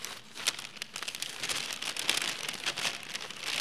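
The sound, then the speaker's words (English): Continuous papery rustling and crinkling of slips of paper being shaken and stirred inside a little bag, fairly soft, with dense crackly bursts and no voices. “I have a little bag here, and I have some slips of paper. And I put these little slips of paper in this bag.”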